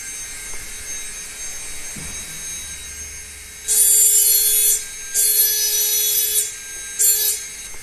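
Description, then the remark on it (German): A steady machine whine runs through the grinding shop of a crystal glass works while three harsh, hissing grinding bursts cut in, each lasting about a second, loud, as a piece of crystal glass is pressed against a wheel. “Und das ist in der Schleiferei und da gehen wir jetzt mal hin.”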